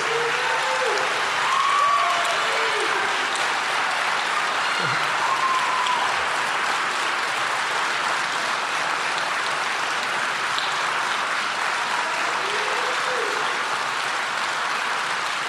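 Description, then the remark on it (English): Sustained audience applause for both candidates at an SGA president candidates' event held by the United Alabama Project, a steady, dense wash of clapping that holds at an even loudness for the whole stretch, with a few faint whoops and voices rising briefly above it. “Let's give both candidates another round of applause, shall we?”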